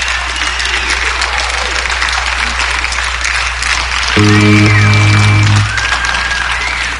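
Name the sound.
audience applause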